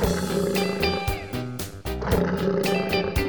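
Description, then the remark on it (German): A lion-like roar, that of Leo the lion in a song, growls out amid an upbeat music track, with loud, rough bursts layered over steady drum beats and sustained instrumental tones. “Der große Leo Löwe ist lieb und schläft sehr viel. Gleicht einer Schmusekatze, sein Brüllen ist nur Spiel.”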